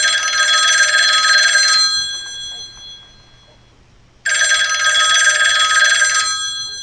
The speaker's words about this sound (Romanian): Deodată, telefonul a sunat ascuțit și tare la postul de poliție.